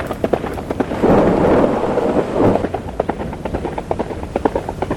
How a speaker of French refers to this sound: Le vent hurlait à présent. Les branches d'arbres s'entrechoquaient. Une lumière fulgurante accompagnée d'un tonnerre assourdissant explosa dans l'air.